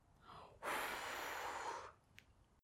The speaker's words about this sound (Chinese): 他把书上的灰吹走了。他把书上的灰吹走了。